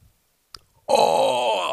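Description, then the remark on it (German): An injured woman at a World Cup match, shown in a broadcast close-up, lets out a loud, sustained, pained moan that sounds close to crying, rising abruptly after a brief quiet gap with a faint click and lasting about a second. “Die heult fast sogar. Hat ihr das so wehgetan, dass sie weinen muss?”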